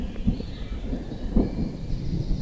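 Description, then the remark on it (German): A low, rolling rumble of thunder from an approaching thunderstorm growls steadily with a couple of deeper swells, moderately loud, over a soft hiss that could be light rain. No one speaks. “Das Gewitter rückt immer näher, wie man hört.”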